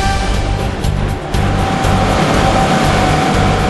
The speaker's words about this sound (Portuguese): Aqui o barco entra no mar já com os passageiros a bordo.